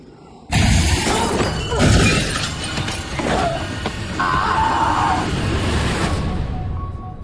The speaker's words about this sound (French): Bris de verre au bel air. Non, c'est pas ici qu'on casse la vaisselle, mais on casse beaucoup de vitres.